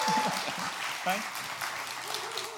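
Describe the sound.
Audience applause, a steady wash of clapping lasting a few seconds, with voices murmuring and calling out faintly underneath.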